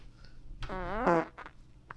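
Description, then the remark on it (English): A single fairly loud front fart (vaginal flatulence): a buzzy, sputtering blast lasting about half a second that wavers in pitch, followed by faint rustling in otherwise quiet surroundings. “This is hard to do while I'm having a front fart.”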